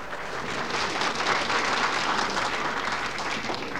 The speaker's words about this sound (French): que je vous demanderai également d'applaudir bien fort.